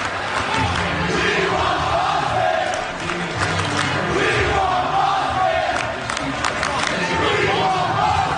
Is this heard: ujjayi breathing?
no